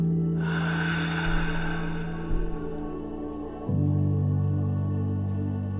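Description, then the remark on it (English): A deep breath is held and then slowly released, starting with a soft airy rush that gradually fades over a few seconds, heard over a steady, sustained musical drone. “Hold and slowly release.”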